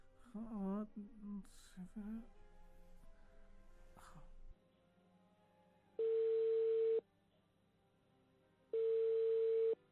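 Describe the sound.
A brief voice at the start, then two long, steady telephone ringback tones of an outgoing phone call separated by a pause, clear as if heard through the phone line.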